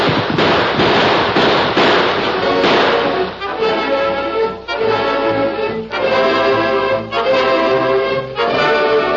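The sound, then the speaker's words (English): Gunshots in a radio drama ring out in a rapid, crackling volley of sharp bangs, then give way to a steadier run of loud, ringing blasts spaced about a second apart. No voices are heard. “Get away from that horse or I fire!”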